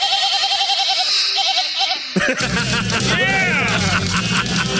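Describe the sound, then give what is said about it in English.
A goat bleats in loud, quavering cries, then a sudden burst of rushing, crashing noise swells up with more bleats wavering over it, all dense; a played sound clip of surfing goats. “Again, we have the surfing goats.”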